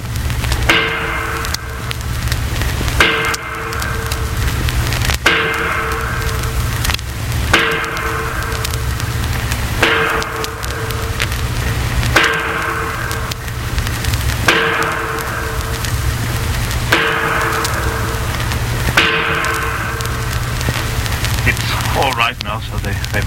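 A sledgehammer clangs against the bolts and wing bolts holding a door shut, tightening them for a watertight seal. There are about ten loud, evenly spaced blows roughly two seconds apart, each ringing briefly over a steady low droning rumble.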